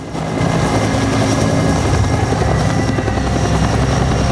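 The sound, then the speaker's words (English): A helicopter lands on a street as Marines tending a wounded soldier duck down. Its rotor chop thuds steadily under a loud rush of dusty wind and engine whine. The sound is sustained and intense throughout, with no voices. “A helicopter lands on the street, Marines tending to a wounded soldier ducking down as a blast of dusty wind sweeps over them.”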